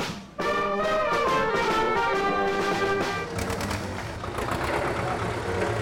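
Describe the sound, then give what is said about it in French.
A loud rumble of a convoy of farmers' tractors that had blocked the port of La Pallice that Saturday morning, engines running together in a steady droning roar with a strong tonal hum that shifts partway through and continues without pause. “Sur le mail, on croise le convoi de tracteurs qui a bloqué le port de la Palice pendant la matinée.”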